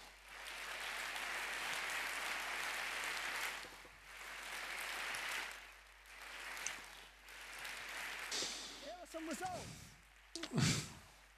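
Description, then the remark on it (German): An audience applauds the team in a sustained burst of clapping that swells and dips across several waves, then fades as a voice starts speaking at the end. “Bitte Applaus für das Team.”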